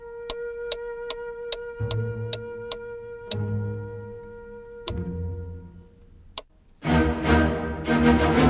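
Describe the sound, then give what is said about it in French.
Clocks tick in a clockmaker's workshop at the back of a shop, in a steady, crisp rhythm over a sustained ringing tone, with low mechanical rumbles joining in, before a louder, busier burst of clattering fills the last seconds. No one speaks. “Et il fabriquait dans l'arrière-boutique de son magasin des horloges, des réveils, des carillons, des chronomètres et toutes sortes d'appareils étranges pour mesurer le temps.”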